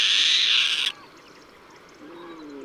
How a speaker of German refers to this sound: Der kühle Morgen in Cabaneros schreitet voran. Die Stimmen der Vögel, die heute den lichten Himmel überqueren werden, durchziehen die Lüfte und werden bis zum Sonnenuntergang nicht nachlassen.